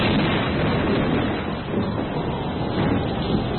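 Loud thunder from a storm with lightning fills the whole stretch as a continuous, heavy roar and rumble, steady with only slight dips in loudness and no voices present.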